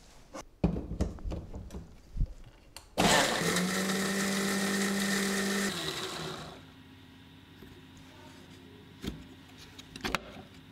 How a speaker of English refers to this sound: For that we're going to take a little bit of mint, a little bit of coriander leaves. I'm to take about 2 inches of ginger, 2 green chilies. Going to add in some water to it, and I'm going to cover this and blend this to a paste.